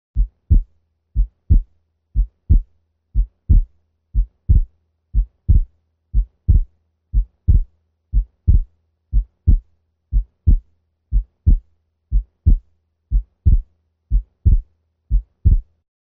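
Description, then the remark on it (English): A dog's slow, steady heartbeat at 60 beats per minute. Each beat is a pair of low, dull thumps, and the second heart sound (S2) is split into two close taps. There is a faint hum underneath and no voices. “Heartworm disease and subsequent pulmonary hypertension is probably the most common cause of persistent splitting of S2 in dogs.”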